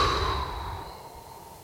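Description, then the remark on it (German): A long, breathy, fairly soft exhale from a breathing exercise, deliberate and audible, after a deep inhale and a held breath, tapering off gradually like a slow sigh, with no talking. “Tief einatmen, den Atem halten, halten, halten und dann gut und hörbar weit ausatmen.”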